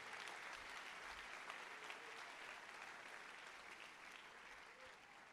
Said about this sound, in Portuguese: Então levanta a voz da glória, aleluia. Pode aplaudir, relevar-se.